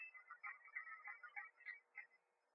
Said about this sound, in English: Yeah, my phone is ringing. Maybe it's the guy in the back.